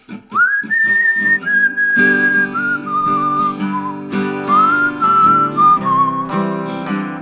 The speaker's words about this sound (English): So this one's in C, and I'll whistle through the intro. It's on the 5 because it's like a steel intro.